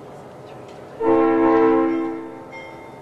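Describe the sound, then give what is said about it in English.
A train at a station platform sounds a single loud, steady horn blast over a low rumble of rolling carriages as it begins to edge away, the horn fading after about a second. “As the train starts to edge away, he raises his hand and waves.”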